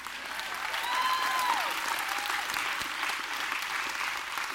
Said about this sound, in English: Okay. I filmed that applause. I know everybody that just said they were in.